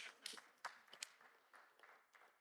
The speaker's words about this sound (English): That was the weakest clap ever.